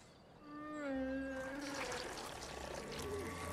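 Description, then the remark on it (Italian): A wet, sputtering gush of liquid spurts out of a sick animal and splashes for a few seconds, fairly loud, alongside a drawn-out, wavering animal groan. “Le è schizzato tutto fuori.”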